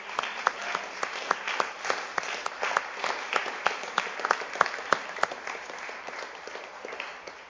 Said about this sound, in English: Give them a clap offering.